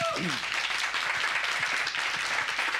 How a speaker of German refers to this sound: Also wo jetzt zum ersten Mal richtig Klatschen aufkommt, würde ich dem gerne widersprechen.